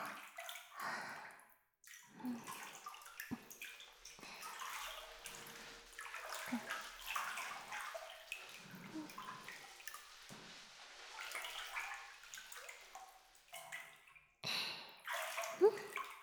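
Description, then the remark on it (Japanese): Splashing and sloshing water in a bath, with soft rubbing and dripping sounds coming in irregular bursts, as someone's armpit is washed with their arm raised. Nobody speaks. “はい、腕上げて、脇をきれいにしていくよ。”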